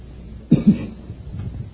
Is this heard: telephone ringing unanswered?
no